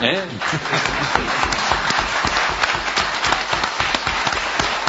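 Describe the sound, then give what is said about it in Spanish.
A studio audience applauds steadily, a dense wash of many hands clapping, with brief voices underneath at the start, applauding to congratulate La Paloma on its 140 years. “Supongo que el aplauso ese que amagó ahí puede tener ahora otro tamaño y otra envergadura.”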